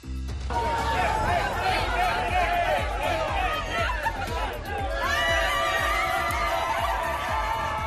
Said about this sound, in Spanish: Champán, gritos, lágrimas de emoción y mucha alegría. El sonido de ayer por la mañana en San Vicente del Raspech.